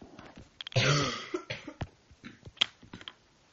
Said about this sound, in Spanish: Perdón, tengo que toser.